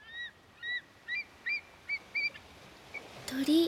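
White seabirds call at the seaside at sunset in a string of about seven short, nasal honks, evenly spaced, before a louder burst of sound at the end.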